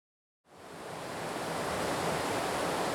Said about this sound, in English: That is the sound of the Mattole River flowing near a popular swimming hole in Whitethorn, and a common resting place for salmon making their journey from the ocean back to the headwaters to spawn.